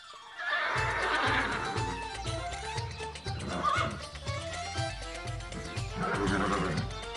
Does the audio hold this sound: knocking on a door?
no